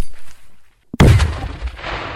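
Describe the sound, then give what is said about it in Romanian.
A quiet stretch broken by one sudden, loud grenade blast with a deep low-end thump, followed by a rumbling, crackling decay and scattered pops like continuing gunfire, during grenade-throwing and light infantry weapons firing drills of Romania's 26th Mountain Reconnaissance and Surveillance Battalion Avram Iancu. “Aceștia au avut săptămâna trecută ședințe de tragere cu armamentul ușor de infanterie și aruncarea cu grenada.”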